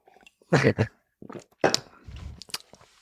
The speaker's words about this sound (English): Let me take a little sip of grog.